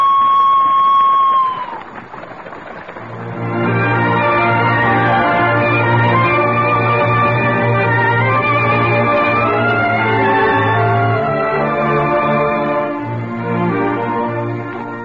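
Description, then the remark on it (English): A whistle blows one steady, high sustained tone for nearly two seconds, then sags and cuts off; a loud, dense wash of low droning tones and clatter follows and continues to the end. “You blow the whistle,”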